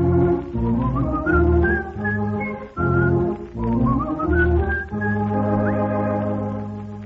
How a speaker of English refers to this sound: But I found out, I know it's true, a whistle does much more for you. So I love to whistle. Troubles won't come near me, especially when they hear me.